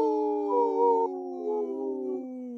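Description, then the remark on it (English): A wolf howl rings out, long and mournful, with overlapping voices holding and sliding between pitches for a few seconds. It is fairly loud and clear, with no talking. “This portion of the show is supported by Howling for Wolves, protecting wolves for future generations. Howl!”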